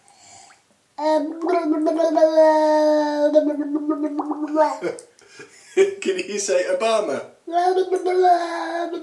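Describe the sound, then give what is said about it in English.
A long, wavering, bubbly gargling sound as a child blows bubbles in water while vocalizing, fairly loud, returning in shorter bursts after a person asks a brief question. “That's pretty good with bubbles.”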